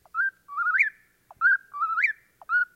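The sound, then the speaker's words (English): A whippoorwill in an eastern forest at dusk repeats its clear, whistled three-part call, each phrase ending in a sharp upward swoop, sounding two full times and starting a third, with no other sounds. “And there's one now, the forest-dwelling whippoorwill, whose whistled notes spring forth from eastern forests just as thrush songs fade away.”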